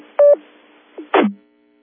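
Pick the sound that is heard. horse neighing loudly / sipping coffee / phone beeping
phone beeping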